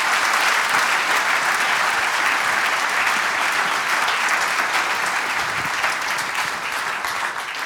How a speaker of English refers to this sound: So give these guys a round of applause.